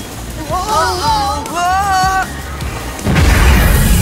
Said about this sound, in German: Das Silodach explodierte und Unmengen gerösteter Maiskörner wurden herausgeschleudert. Seht mal, es regnet Popcorn!